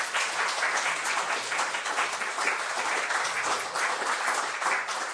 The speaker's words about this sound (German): Ja, von daher möchte ich nochmal danken und einen dicken Applaus nochmal einfordern.